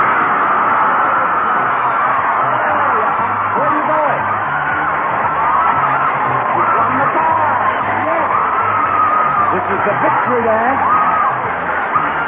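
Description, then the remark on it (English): A game show studio audience shouts and yells together in a loud, continuous roar of many overlapping voices, with rising whoops and cries breaking through for about twelve seconds. “Audience, let me hear you say it.”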